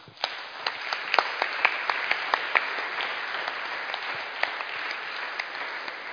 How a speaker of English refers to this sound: So I think we can give a clap to my helpers here and also to all the women that you know.